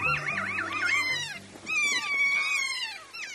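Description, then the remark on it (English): Shrill, wavering parrot calls of a kea, a large alpine parrot of New Zealand's South Island, ring out in two long bursts, the first trilling up and down in pitch, the second a sustained descending whistle-screech, with a brief pause between. “Kias are large alpine parrots that live on New Zealand's South Island.”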